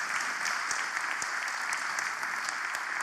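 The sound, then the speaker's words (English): Steady applause from an audience applauding what the Lord is doing, a dense continuous patter of many hands clapping at an even level with no voices over it. “Yeah, we want to applaud what the Lord's doing.”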